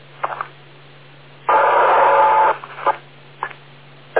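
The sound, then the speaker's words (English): Over a low electrical hum, a radio repeater gives a one-second burst of static carrying a steady mid-pitched tone, surrounded by several short, sharp repeater beeps, blips and clicks, with no voices. “wait for all the beeps”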